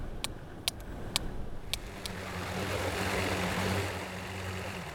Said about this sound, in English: And it's a boat that is stopping. The engines are really masking echoes of the hunters.